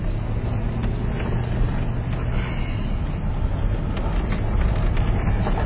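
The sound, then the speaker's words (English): A FedEx delivery truck passing by on a road among rim rocks and canyons: steady engine and road rumble, loud, holding at an even level throughout with a broad, noisy low-end drone and no one talking. “FedEx truck just came by.”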